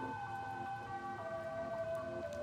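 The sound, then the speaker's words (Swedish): An ambulance siren wails steadily, its tone sliding slowly downward, over a low rumble of traffic or engine noise, with no voices present. It is the middle of the night in Stockholm, Sweden, with raw air at 7 degrees and a light wind. “Polisen är på plats och ambulansen har åkt mot Sabbatsbergs sjukhus med den skadade mannen.”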